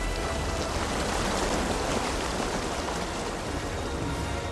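Steady, heavy rain pours down in a dense, continuous hiss with no letup, a broad wash of noise with no voices: a rainstorm outside at 3:30 a.m. on 5 June 1944, as Allied commander General Eisenhower met his generals before the Normandy landings.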